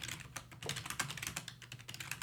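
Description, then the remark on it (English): Rapid, clattery computer keyboard typing, a steady stream of sharp key clicks, fairly loud, with no voices. “You have those extra loud keys on today.”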